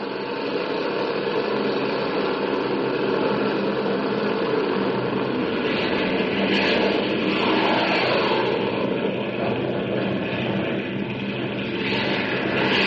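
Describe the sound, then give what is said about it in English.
A large Air Force airplane's engines roar steadily and loudly, a broad continuous rumble with a rising whine that swells slightly midway as the aircraft accelerates down the runway after tower clearance, taking off from San Francisco bound for Anchorage, Alaska. “The big plane taxis to the end of the strip, halts for clearance from the tower, and then roars down the runway.”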